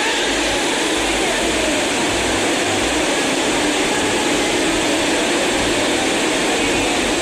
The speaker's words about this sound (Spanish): Parece que el aguacero se estuviera viviendo dentro. La lluvia está inundando consultorios, pediatría, pues claramente tuvo que salir corriendo todo el mundo.